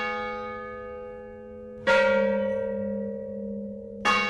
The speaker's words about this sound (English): For the aria depicting Ascensión's death, Joseph Weil and Boone made the first recording of the bells of Mission San Juan Bautista. Boone arranged the sound of the bells to accompany a centuries-old Gregorian chant discovered in the mission archives.